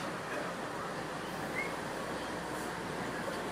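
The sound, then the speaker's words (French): Someone imitates a metro train with their voice, making a steady, continuous whooshing rumble that holds at an even loudness for a few seconds without pauses. “Oui, je fais bien le métro.”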